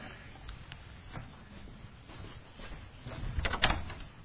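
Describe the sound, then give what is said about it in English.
A few sharp knocks sound at a door, scattered across the moment, then a louder burst of clattering as the door is opened, against a low background hum. It accompanies a retelling of the Bible story of Peter knocking at the door and Rhoda opening it. “Hey, Peter come knocking on the door. Rhoda went and opened the door.”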